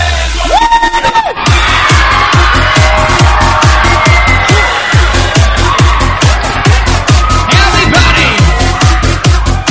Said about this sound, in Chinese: 准备好，师傅们，师傅们，师傅们，师傅们，师傅们，来点尖叫大喊声好吗？